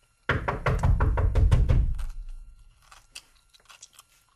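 A woman in a bathrobe and slippers, sitting cross-legged at a table, chews loudly and crunchily in a quick, steady rhythm of about eight bites, then softer scattered mouth sounds as it trails off. No one speaks.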